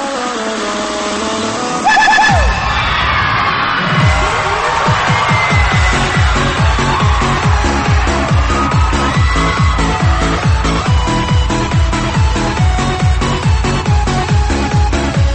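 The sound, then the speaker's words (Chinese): A loud live concert audience roars and screams continuously in response to the performer's call, the wall of voices swelling after a couple of seconds while a steady pounding beat thumps underneath. “现场的所有宝贝跟我配合一下，当你们听到我的尖叫声以后，我希望听到全场的兄弟姐妹，希望听到你们的呐喊声、尖叫声。”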